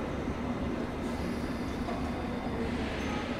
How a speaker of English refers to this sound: Join the train, please. This train is now ready to depart. Stand clear. Mind the doors, please.